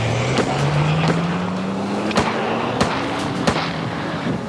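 An SUV engine starts and revs steadily higher in pitch under a rough, noisy rumble, while several sharp, loud bangs crack out at irregular intervals as police fire at the SUV's tires. No one speaks.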